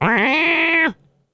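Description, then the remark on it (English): A single loud cat meow in protest at being in water, drawn out for almost a second with a slightly wavering pitch before cutting off abruptly, followed by near silence. “It'll just that cat making the same noises will be the same thing.”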